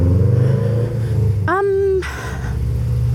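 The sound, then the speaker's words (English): Car engines rumble low and steady in nearby traffic that is not moving, with a short, rising tonal rev surging briefly partway through before the idling drone continues. “And, oh, the cars aren't even moving.”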